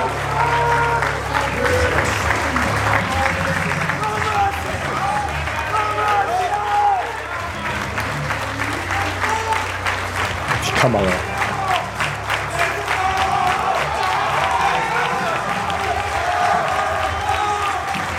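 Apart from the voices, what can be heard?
audience applauding and cheering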